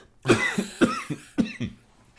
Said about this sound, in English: I'm going to cough for a minute. Excuse me. I always cough when I talk about Dr. Fauci.